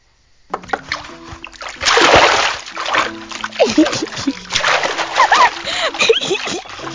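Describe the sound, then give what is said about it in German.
Water splashes and sloshes in a few uneven bursts, loudest early on, as a child washes itself, while someone's voice murmurs and exclaims over the wet, splattering sounds. “Verschwende das Wasser nicht.”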